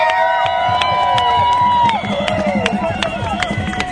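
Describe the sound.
A big anti-war protest march crowd in Toronto cheers and whoops steadily, many overlapping loud voices, with a regular beat of claps or drum hits pulsing underneath throughout.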